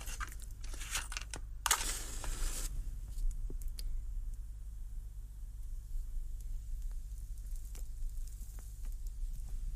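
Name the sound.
lighting a cigar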